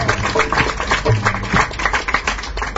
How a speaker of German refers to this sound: Ich denke, wir sollten die Bhagavati mit großem Applaus ermutigen.